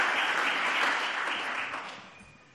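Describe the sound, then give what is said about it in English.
An audience at Shofar Durbanville applauds steadily to welcome Pastor Lusani of the Delft audience, a dense wash of many hands clapping that holds strong before gradually tapering off toward the end. “So let's give Lusani a hand and welcome him to Shofar Durbanville.”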